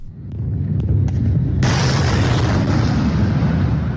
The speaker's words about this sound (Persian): یک بار دیگر صدای انفجارهای قوی و حمله شبانه به اطراف دمشق و باز هم روایت‌های متفاوت درباره آن.